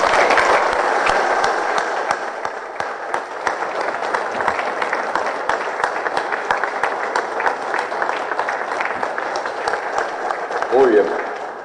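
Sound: applause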